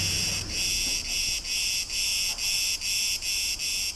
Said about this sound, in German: Ich bin sehr froh, dass ich mein Aufnahmegerät dabei habe. Ich experimentiere den ganzen Tag mit der Aufnahme einer einzelnen Zikade.